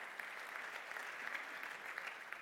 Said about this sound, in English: Give the Lord a hand clap. Give the Lord a hand clap on that.